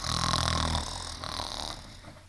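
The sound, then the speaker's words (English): Three people snore, fast asleep in their beds: a loud, rumbling snore lasting under a second, then softer breathy snoring sounds that trail off. No one speaks. “had all climbed into their beds and were already fast asleep and snoring.”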